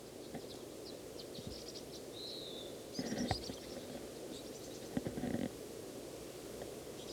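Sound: bird calling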